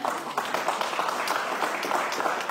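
A crowd applauds a young man invited up in front of the cameras, many hands clapping in a dense, continuous patter that holds at an even, fairly loud level throughout without pause.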